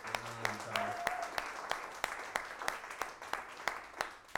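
Audience applause for a band's guitarist at a live band show: steady, fairly even claps rising over a broad rustling wash for about four seconds, with a brief voiced cheer near the start.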